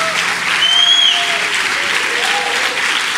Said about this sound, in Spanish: Oh, si estás apasionado, dale ese aplauso, por favor.